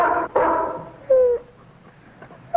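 A dog named Tramp lets out a couple of loud, harmonic barks, followed by a short, high whine, then quiet with only faint background noise.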